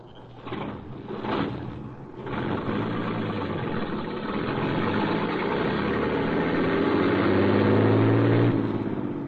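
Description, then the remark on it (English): A truck hauling a load of waste paper cranks with a few quick bursts, catches, and settles into a loud, steady rumble that gradually revs higher before easing off at the end. “Shut up and get this roadhog rolling.”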